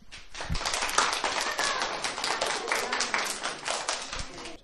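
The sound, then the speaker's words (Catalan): A crowd applauds Kal-El steadily, many hands clapping in a dense, continuous patter that holds at an even, fairly loud level for several seconds with no talking. “Un fort aplaudiment per la persona de la Terra que es canvia més ràpid.”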